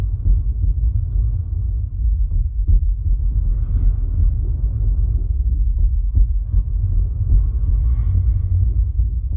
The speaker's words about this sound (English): It's just kind of a little universe unto itself, and then every few minutes you'll hear a train go by, which gives its whole existence its own theme tune, I suppose.